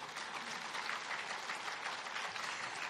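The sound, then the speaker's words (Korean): A crowd claps steadily throughout in honor of the companies Samsung, Hyundai, Kia and LG, a dense, even wash of many hands applauding at a fairly loud level with no voices standing out. “물론 어느 잘못된 부분도 있지만 솔직히 우리나라가 이렇게 잘 살게 된 여유 이유 중에 하나가 삼성, 현대, 기아, LG 그분들 박수 한번 쳐주세요.”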